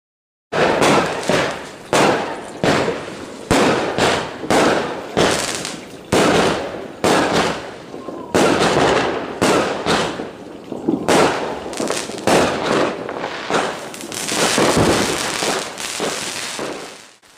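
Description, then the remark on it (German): A dense barrage of New Year's Eve fireworks bangs and crackles, with rapid repeated explosions one after another for the whole stretch, loud, no talking. “Das Jahr ist vorbei. Da knallt es immer so viel.”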